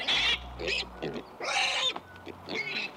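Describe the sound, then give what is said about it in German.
Several squealing, grunting calls of pigs in short bursts, a few loud high-pitched squeals alternating with lower grunts, with no talking. “Auch ohne viel Technik lässt sich bei diesen Schweinchen erkennen, welche Emotionen gerade durch ihren Körper gehen.”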